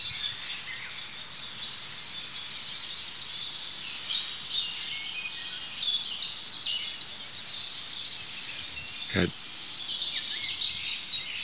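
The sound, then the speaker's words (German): A European robin, one of two robins present, sings very high, thin, delicate notes in scattered bursts, fairly faint over a steady outdoor hiss, with one short knock partway through. “Jetzt habe ich mich gedreht zu dem anderen Rotkehlchen, es ist gerade still geworden.”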